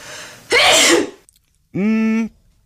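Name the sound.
human sneeze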